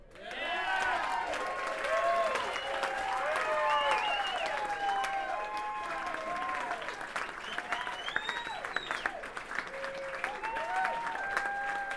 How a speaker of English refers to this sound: So I'd like to get a nice round of applause for my friend